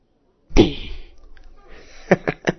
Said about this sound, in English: Yeah. Yeah, I did slap you. You want another?